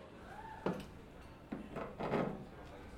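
A wooden chair is dragged out from a table, giving a few short scrapes and bumps against the floor, with a longer rubbing scrape near the end.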